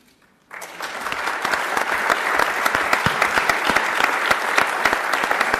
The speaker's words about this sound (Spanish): Se le saltaban las lágrimas, le aplaudía a la gente que estaba en la sala.